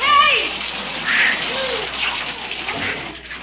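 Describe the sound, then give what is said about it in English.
Water sprays from a hose stuck in a car's glove compartment in a steady, loud hissing rush with splattering edges. It continues unbroken for the whole stretch, and a brief voice-like cry rises near the start. “Leroy, turn off that water!”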